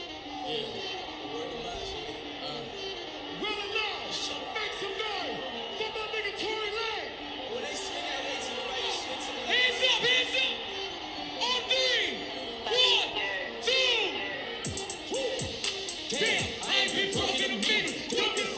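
A concert crowd in Miami, Florida roars and cheers without a break, a dense wash of many voices with scattered shouts and whoops that swell louder toward the end.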